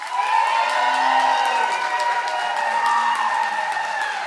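An audience bursts into sustained applause mixed with cheering and whoops, voting by applause for a 1980s Christmas hit, a dense, loud wash of clapping that holds steady throughout without any speech.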